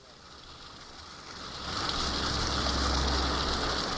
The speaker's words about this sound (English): Tannery Creek runs through the middle of Woodstock, New York, in the Catskill Mountains. It's about 120 miles from New York City, yet streams like this one is where the Big Apple gets most of its water.